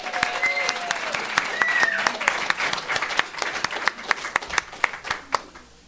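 An audience at a Debtors Anonymous meeting applauds three speakers with steady, dense clapping that gradually thins out, individual sharp claps standing out toward the end as it fades. Faint whistle-like tones and murmuring sit underneath.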